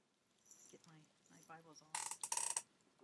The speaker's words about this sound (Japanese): この紙の聖書の音いいですね。もちろん自分が読むところはちゃんとここに書いてあるんですけども、この紙のページが大好きですね。